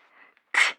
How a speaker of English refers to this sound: Bless you